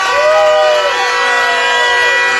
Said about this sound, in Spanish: ¿Por qué no le brindamos un fuerte aplauso por los de Totonicapán, compañeros?